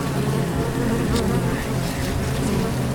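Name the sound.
bees buzzing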